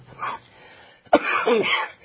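A harsh cough from someone who has been laughing bursts out after a brief quieter rasp, then trails into a rough, throaty clearing sound. No one speaks.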